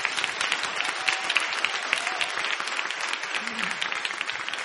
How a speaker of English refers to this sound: So clap your hands for the Holy Ghost.